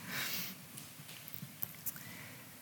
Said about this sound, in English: And that is a horse.